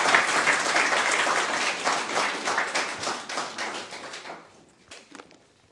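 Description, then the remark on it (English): An audience at a church gathering applauds the musicians with dense, steady clapping, then thins out into a few scattered claps as it fades over the last second or two. “Another round of applause, please, for our musicians, who I appreciate very much.”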